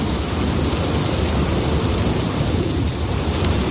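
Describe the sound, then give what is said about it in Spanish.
Steady, heavy rain pours down in a dense, unbroken wash of noise, with a low rumble underneath suggesting thunder. No voices, just the constant downpour throughout. “La lluvia ha sido la protagonista en mayor o menor medida en todo el país, sobre todo en el centro y norte peninsular”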